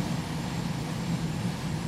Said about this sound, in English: There go the air brakes. Air brakes in.